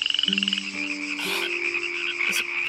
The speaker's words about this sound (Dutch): Wat is dat nou voor gekwaak? Eens kijken. Hey, wie is dat nu zo aan het roepen, zeg?